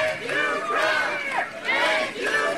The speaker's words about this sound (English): To President Donald J. Trump. I had to stop because they were cheering.